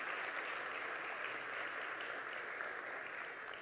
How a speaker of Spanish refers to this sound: Jesús tiene la última palabra. Den un aplauso al Señor en esta mañana. Aleluya.